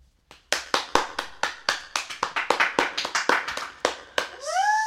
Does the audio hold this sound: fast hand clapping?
yes